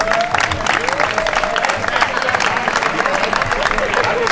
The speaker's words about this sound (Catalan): I demano un aplaudiment per als que se'n cuiden del concurs de colles.